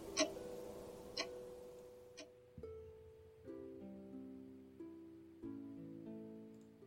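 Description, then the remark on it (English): Three sharp clock ticks land about a second apart over a steady tone, then give way to sustained musical notes that step through changing pitches. No one speaks. “Tick, talk, tick, talk. Looks like our next quest is right now. All right, we get it. You're ticking.”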